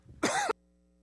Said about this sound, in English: I need to cough, and I apologize for that.